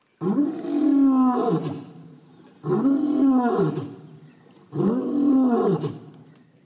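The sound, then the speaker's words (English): A lion roars three times in a steady series, each deep, powerful bellow rising and then trailing off into a low rumble, with short pauses between. The roars are loud, with no talking. “He roars no more.”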